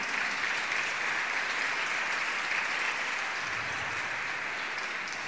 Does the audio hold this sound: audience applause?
yes